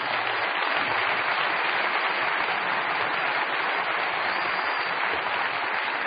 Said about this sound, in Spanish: Sí, denles bien el aplauso, ¿no?